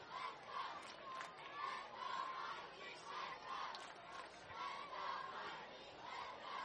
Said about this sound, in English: Students here for Education Day making their voices heard. Trying to cheer Mikey Kane on to a potential RBI opportunity.